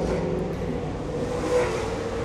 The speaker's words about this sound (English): And as this race car goes by, I'll let you think about that.